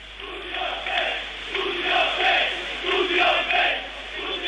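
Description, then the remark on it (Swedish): A large crowd of about 3,000 demonstrating students in Belgrade chants "Studio B, Studio B" in unison at night, voices rising and falling in a steady repeated rhythm, loud and continuous throughout. “Det här är demonstrerande studenter i natt som ropar Studio B, Studio B.”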